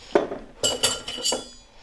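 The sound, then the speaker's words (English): Four quick, bright clinks ring out in a loose cluster as ordinary freezer ice cubes are added to a glass for a cocktail, hard pieces knocking into the glass with short ringing tails, with no voices. “And then we're going to add ice.”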